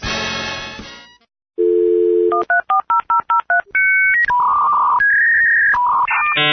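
A dial-up internet modem connecting, heard in a Serbian radio advertisement for fiber internet: a burst of noise, a steady dial tone, a quick run of touch-tone beeps, then screeching, warbling handshake tones that shift pitch, loud.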